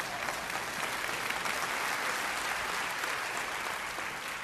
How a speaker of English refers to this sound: One person clapping right over here. Thank you.